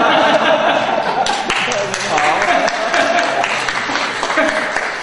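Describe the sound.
A crowd claps loudly and steadily for several seconds, a dense wash of applause mixed with scattered chuckles and murmuring voices.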